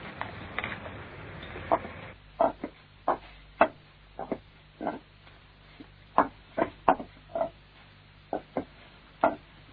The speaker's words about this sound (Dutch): Moeder, moeder, kom eens kijken. Wat is er? Kijk eens op de weg. Er stopt een koets bij ons voor de deur.